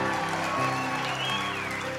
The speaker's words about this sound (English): Why are these people clapping? I think they realize the song is almost over.